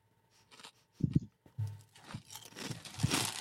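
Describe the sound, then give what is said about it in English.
Crisp crunching of dry cereal with nut clusters being chewed, a series of irregular bites with brittle crackling bursts, heard alone without any talking. “Good crunch. Yep. I'm getting a nut cluster right here.”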